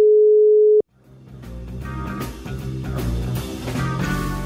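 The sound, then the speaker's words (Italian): A steady, loud telephone tone hums alone for under a second as a phone call is placed, then cuts off abruptly as a full band of music swells in and keeps playing. “Fabrizio non risponde. Allora, proviamo a prenderlo per telefono.”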